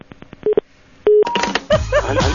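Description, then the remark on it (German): A quick series of electronic telephone keypad tones beeps out as a number is dialed, followed by a longer steady tone, then a burst of noisy sound with chirping tones over a low hum as the call fails to connect. “Kein Anschluss.”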